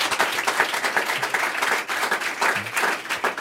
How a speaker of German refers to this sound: Vielen Dank. Ja, Applaus hast du dir verdient.